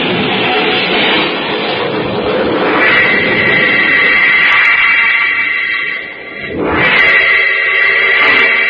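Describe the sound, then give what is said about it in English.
A loud, rushing engine roar gives way to a long, high tire screech that wavers and dips, then shrieks again, with no voices over it, as a car with a flat tire and failing brakes skids in the rain on a hill and goes over a cliff. “We're skidding. The brakes won't hold. We're going over the cliff.”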